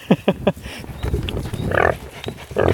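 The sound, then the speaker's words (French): Several pigs grunt and squeal, a few short sharp snorts at first, then a busy overlapping jumble of grunts and squeals as they squabble over food. “Et voilà, ça c'est les cochons.”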